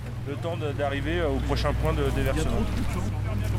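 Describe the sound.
A motorboat engine drones steadily at a low pitch on a river, with a person talking over the constant hum, as the boat stops every 500 meters, alternately by the left and right bank, to release young fish.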